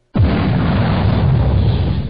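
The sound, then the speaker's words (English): A loud explosion bursts in suddenly after a brief silence, then a heavy, rumbling boom sustains with crackling debris noise for about two seconds without fading much. “Iraq is booming.”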